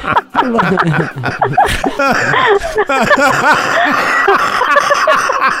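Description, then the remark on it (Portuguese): Heavy, rapid coughing fits, repeated hacking bursts mixed with voiced, laugh-like gasps, loud and nearly continuous for several seconds. “Nossa, que tosse pesada.”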